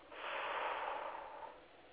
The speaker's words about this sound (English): So spend a few minutes and ask yourself, how do I feel right now? I'm going to take some deep breaths. Can you hear me breathing?